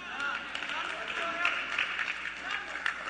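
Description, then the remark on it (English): Scattered, light clapping from about four audience members at a sermon, a thin patter of hand claps that continues steadily for a few seconds with a soft murmur underneath. “It's like four of y'all clapping.”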